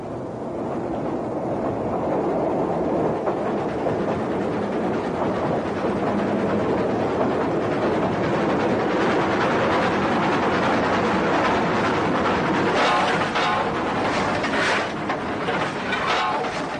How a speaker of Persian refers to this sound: قطار از طریق تونل کوزیان به سرعت از زیر گذرگاهی که عبور از آن با شتر 7 ساعت وقت ما را گرفت می‌گذرد. قطار این مرحله را ظرف 30 ثانیه طی کرد.